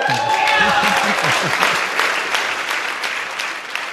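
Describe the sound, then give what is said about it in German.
A crowd applauds the award winners at the old town hall in Lübeck, with steady, dense, rapid clapping that fills the whole stretch, while a voice speaks briefly over the start of the applause. “Den Applaus hatten sich die Gewinner verdient.”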